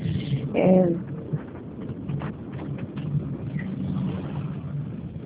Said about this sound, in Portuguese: Só deixa eu parar aqui que eu estou dirigindo.